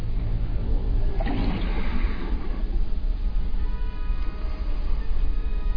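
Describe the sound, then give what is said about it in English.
Water rushes and churns steadily, filling a tank, with a louder gushing surge early on before settling into a dense, continuous roar. No voices are heard. “This is quite fun to shoot, because we tried to capture the claustrophobic and being in this tank and filling up with water and just having to hold your breath, and I think it sells it quite well.”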